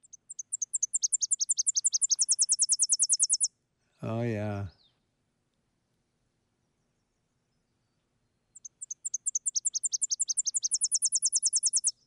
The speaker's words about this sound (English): And the birds, for the most part, don't even nest in Wisconsin. It's a migrant going up to Canada. Let's hear the Tennessee warbler.